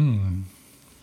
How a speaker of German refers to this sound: Okay, stattdessen musst du meinen Rülpser rausschneiden.